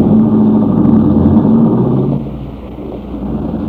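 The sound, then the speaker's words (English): A car engine rumbles loudly with a steady droning note, then the sound drops away as the vehicle pulls off, leaving a lower, fading hum. No voices. “And tell Warren to give the car a good tune-up.”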